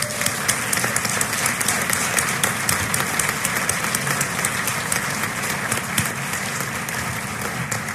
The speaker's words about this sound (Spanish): De verdad, yo pido un aplauso para este gran equipo